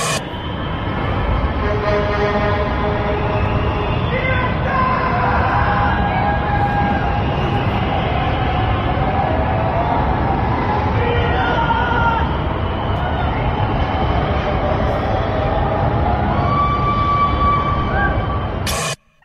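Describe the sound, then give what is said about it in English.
A large crowd in Melbourne celebrates the end of lockdown at 11:59 at night, roaring continuously, with overlapping shouts, cheers and whistles over a dense, loud babble of voices that holds steady for the whole stretch. “The Premier has quite confidently said, let's have a listen to some of the sounds around Melbourne.”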